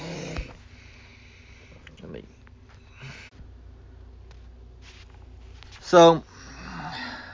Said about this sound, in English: Sorry about that, guys. I had to, my dog was going crazy, and I had to get her in the bedroom.